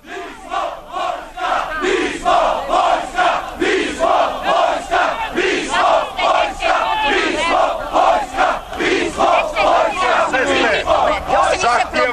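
A large crowd at a rally on Republic Square in Belgrade on 31 January 1990 chants in loud, rhythmic bursts, many voices shouting together in a steady repeating cadence with brief dips between phrases, a dense roar of massed voices throughout.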